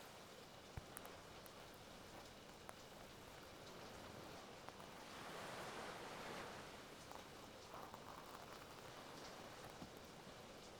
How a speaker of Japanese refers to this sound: 穏やかだった雨はいつの間にか海の波を叩き上げるほど風に吹きつけられて勢いを増しています。